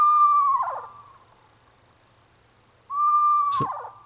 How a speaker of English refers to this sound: So that's eerie, too, in the middle of the night. It's that last part, that little like vibrato part at the end that is like, is that a horse? Yeah, it's very strange. That's a screech owl.